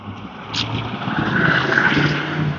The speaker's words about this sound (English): God, it's noisy. It was really noisy. A lot of traffic this morning out on West 20th. I was trying to hear the meditation prompts, and I couldn't hear them because the traffic noise was so loud.